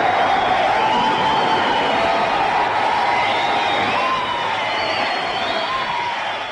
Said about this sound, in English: Hear that applause, dear listener. It was not for Danny Kaye. Not for Fred Lane. No. It was all for a commoner garden BBC announcer, Wallace Greenslade. How did he come by this rapturous applause?